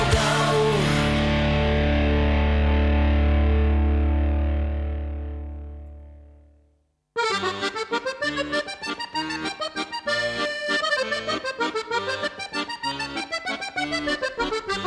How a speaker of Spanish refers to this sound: Y si suena esta sintonía es que tenemos al otro lado del teléfono a nuestra autónoma superviviente